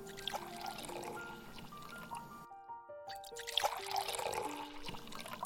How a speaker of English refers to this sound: A lovely Spanish red wine to accompany it all. Here, I'll pour you some.